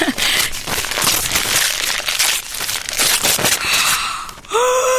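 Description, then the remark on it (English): Wrapping paper with a snowmen print is torn and crinkled as a gift is unwrapped, in dense, crackling bursts that keep going for several seconds. Near the end a brief high, rising tone cuts in, and no one speaks. “Oh, nice paper. Snowmen. Oh, you've wrapped it well.”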